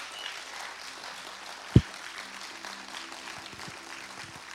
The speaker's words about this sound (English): Come on, if you mean it, let's give a quick clap to Jesus this morning.